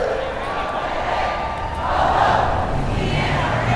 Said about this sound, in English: They were chanting like this, saying the NRA has got to go.